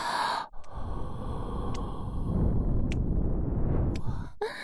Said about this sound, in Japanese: 耳の穴に熱かく吐息をプレゼント。